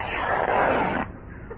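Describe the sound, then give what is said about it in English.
A single zip being pulled up on a rubber suit: a steady, raspy scrape lasting about a second, then an abrupt stop into faint hiss. “Now look, zip your rubber suit up and stand by to be launched.”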